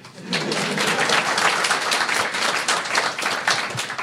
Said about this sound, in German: Applaus dafür.